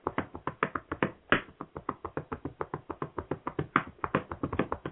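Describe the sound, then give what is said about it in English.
A shoeshine cloth is rubbed and snapped on a shoe to shine it in a quick, steady rhythm, about five sharp pops a second, fairly loud, with no voices. “Now we shine that shoe like a looking glass.”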